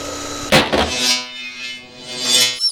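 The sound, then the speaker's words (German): A hair dryer, used to restore a poodle's look, whirs with a steady, buzzing motor hum and a breathy rush of air that swells and dips over about two and a half seconds before cutting off abruptly. “Warte, ich hole noch deinen Föhn, um deinen Pudellook wiederherzustellen.”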